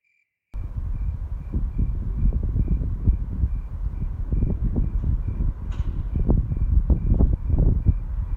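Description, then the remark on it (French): A soft, low wind rumbles and gusts steadily throughout, with a faint, evenly pulsing cricket-like chirp in the background of a quiet night scene. “J'ai enregistré les sons de cette nuit parce que j'aime le silence et le vent léger.”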